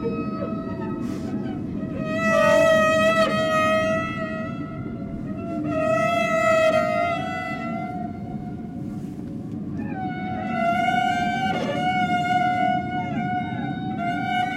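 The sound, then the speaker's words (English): Three long, wailing cello tones, rich in harmonics, played by a cellist to imitate whale calls, swell and slide in pitch, each rising and falling over a few seconds above a steady low rumble. “Maybe if he played the sounds of whales that he learned to replicate, maybe some whales would call back.”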